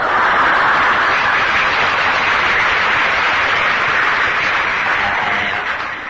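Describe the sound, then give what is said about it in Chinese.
Steady audience applause fills the whole stretch, a dense wash of many hands clapping, loud and sustained before tapering slightly at the end, with no talking over it. “我在闹愧于我自己，你怎么也鼓掌呢？”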